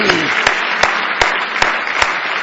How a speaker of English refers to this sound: Give the Lord a big hand clap of praise if you love Him tonight. Isn't it good?